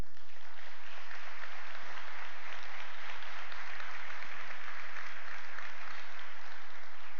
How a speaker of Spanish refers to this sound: Y dicho esto, a mí me encanta que ustedes den un fuerte aplauso.